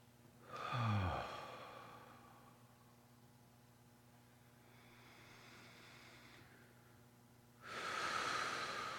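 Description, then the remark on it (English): Deep, breathy inhales and exhales during a guided breathing exercise, clear: a loud rushing breath, a softer one a few seconds later, then another strong breath near the end, with no talking. “Let's do two or three really deep breaths. And please feel free to let out any sort of exhaling sound, obnoxious as it may sound.”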